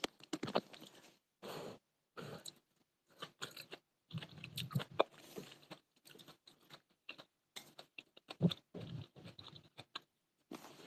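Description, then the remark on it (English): Crunchy chewing with sharp bites and brittle crackles, coming in irregular bursts separated by brief pauses. Fairly loud, with no talking over it. “Chew louder.”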